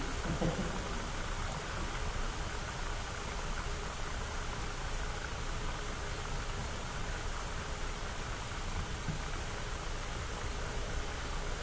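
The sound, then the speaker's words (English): Liquid nitrogen, about to be used to cool an aluminum loop, boiling away in a steady, even hiss of fizzing and bubbling, with no pauses and no voices, holding the same level for the whole stretch. “It's happily boiling away right now.”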